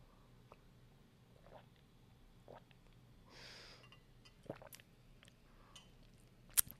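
sipping tea

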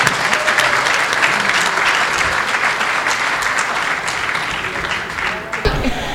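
audience applause

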